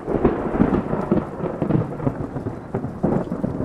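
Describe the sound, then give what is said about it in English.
A loud rumble of thunder directly overhead rolls continuously, with a deep, crackling texture and several surging peaks, during a muggy hike as rain sets in. No one speaks. “That's pretty much directly overhead. Everybody puts on rain jackets”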